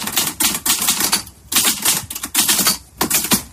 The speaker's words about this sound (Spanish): Una máquina de escribir, una Olivetti de toda la vida. ¿Qué papel juega esa máquina en un momento tan trascendental?